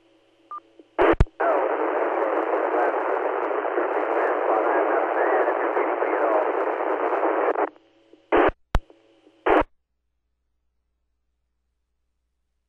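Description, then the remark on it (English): A weak radio transmission, just strong enough to bring up the receiving machine: a receiver opens with a click into several seconds of steady, loud hiss, mostly static with no clear voice, then cuts off, followed by a few brief bursts of noise and sharp clicks. “you got enough to bring the machine up, and that's about it. You're pretty much all white noise, but I got you.”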